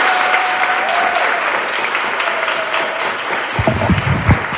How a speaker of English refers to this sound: Clap it up